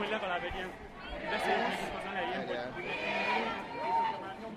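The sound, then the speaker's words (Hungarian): A crowd of protesting students chatters at once, an overlapping murmur of conversation that swells and dips steadily, with no single speaker standing out, as they debate whether to cross a bridge toward the Danube bank where police stand ready. “Most itt vagyok a tömeg legelején szinte, és itt hallgatom a beszélgetéseket, hogy hát még mindig tanácskoznak a diákok, hogy most tulajdonképpen mi legyen, mert rendőri felkészültség áll a hídnál”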